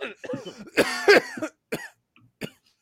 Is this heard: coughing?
yes